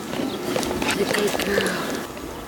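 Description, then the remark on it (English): A light brown three-year-old thoroughbred horse, ridden in a tight circle in a small corral at a jockey school, trots with its hooves thudding in a steady rhythm over a busy outdoor background where faint voices seem to murmur. “In a small corral at her jockey school, Cassandra Brannick rides in a tight circle on top of a light brown three-year-old horse”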